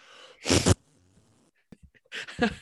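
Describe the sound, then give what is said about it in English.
Two loud, rough fart noises, each a short, sputtering burst lasting about a third of a second, separated by a quiet stretch with a few faint clicks. No one speaks. “Your mic cut out because the fart noise was so gross.”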